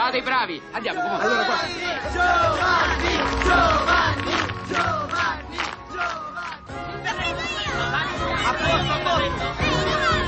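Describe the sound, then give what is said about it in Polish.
A crowd of children chatters and shouts in front of a gate, many high-pitched voices overlapping in a steady, lively babble that stays loud throughout, with occasional squeals rising above the din. “Przed bramą pełno dzieciaków.”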